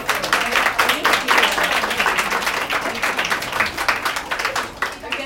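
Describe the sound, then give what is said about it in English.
A steady round of applause from an audience, dense overlapping claps holding at a fairly loud level for several seconds with no voices standing out. “I think we deserve everyone up here to present a round of applause.”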